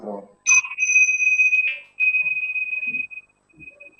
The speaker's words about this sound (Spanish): Cuando sientan el sonido de las campanas, empezamos.